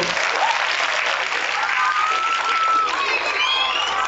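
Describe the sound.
A group of children clap steadily for several seconds, a dense patter of many hands with high excited voices and squeals rising above the applause.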